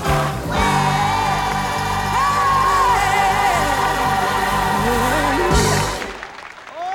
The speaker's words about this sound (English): The chubby-cheeked boy claps along.